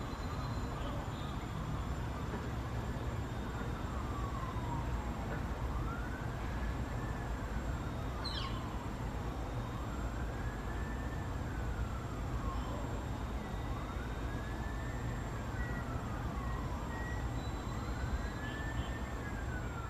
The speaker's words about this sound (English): And then I hear a ambulance or the police car sound that is very constant in the background.